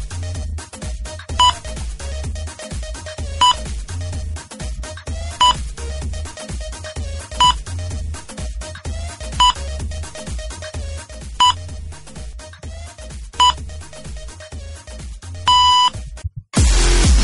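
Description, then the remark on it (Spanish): A series of evenly spaced electronic New Year's Eve countdown beeps, about one every two seconds, sounds over steady thumping dance music on a radio broadcast, then gives way to a louder burst at the end. “En cuanto suene el primer pitido, os metéis lo primero de que hayáis cogido, ¿vale?”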